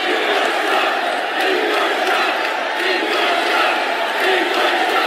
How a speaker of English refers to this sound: But the reaction in the Quicken Loans Arena here in Cleveland last night was an odd mixture of applause, boos, and 14 chants of endorse Trump.